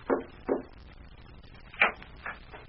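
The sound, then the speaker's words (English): Soft, hesitant signal knocking on a wooden hotel room door after midnight: two light raps, a pause of over a second, then a couple more quiet knocks, with no voices. “There was a cautious knock on the door, repeated three times.”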